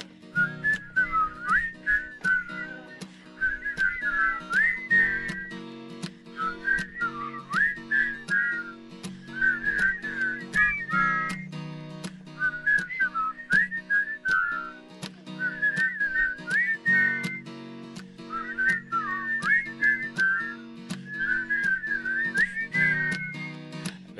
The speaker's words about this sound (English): Can you guys whistle? Help me whistle.